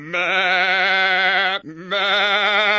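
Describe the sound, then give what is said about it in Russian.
A ram, cornered by a wolf in a winter hut, bleats loudly, a long, wavering, strained cry that breaks off briefly and then resumes in a second sustained bleat. “Забился баран в угол, заблеял страшным голосом.”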